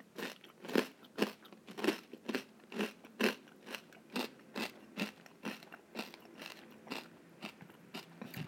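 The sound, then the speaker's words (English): Crunching as someone chews crisp pork scratchings, a steady run of sharp, brittle bites repeating roughly every half second, with no talking. “and a good crunch on them too.”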